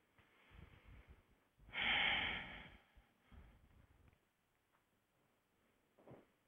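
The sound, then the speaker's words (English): Slow, deep breathing during a relaxation exercise, with one loud, rushing inhale or exhale in the middle followed by softer breaths and a faint final breath, with no talking. “Just keep breathing deeply for just a few seconds.”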